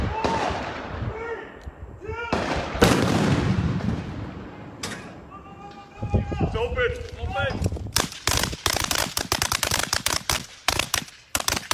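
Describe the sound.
Booming blasts of artillery fire and explosions from a military training complex in the town of Hoffman, North Carolina, first scattered with voices talking over them, then a dense, rapid barrage of sharp cracks and thuds filling the final seconds.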